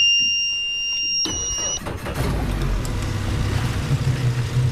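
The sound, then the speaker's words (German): After a steady high-pitched electronic beep, the engine of a large white boat on the Limfjord starts up, cranking briefly and then settling into a continuous low rumble as the boat pulls out of its berth. “Das war der Motor.”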